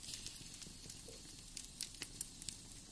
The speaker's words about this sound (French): À l'exception du crépitement des bûches, le silence est total.